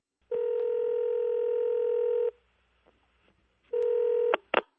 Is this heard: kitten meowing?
no